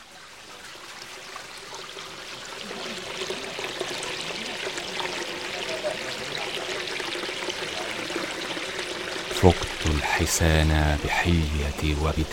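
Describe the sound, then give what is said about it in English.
Steady rushing water flows continuously, building from soft to fuller, like a river current; near the end, tonal musical sounds rise over the water. “Guada. River.”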